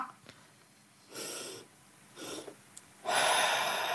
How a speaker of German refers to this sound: macht man das ein bisschen langsamer, dann atmet man zweimal, also man atmet quasi einmal tief ein und wenn man meint, die Lunge ist voll, atmet man nochmal ein Stück mehr ein und dann ganz lange aus.